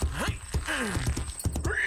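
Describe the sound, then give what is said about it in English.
A horse whinnies with high, wavering cries while hooves clop unevenly as a rider playing Paul Revere sets off on his midnight ride, sharp knocking steps spread across the brief moment over a busy, noisy background. “Get on the horse”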